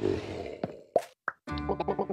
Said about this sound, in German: Die sind zwar nur sehr grob gepixelt und haben keine Sprachaufgabe, sondern nur dieses Blubbern, was wir gerade gehört haben und da auch nur wenige Zeilen Text.